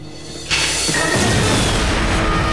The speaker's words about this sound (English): Moving around in the darkness, Solo's spotted and has to dive to avoid another blast from Madden's cannon.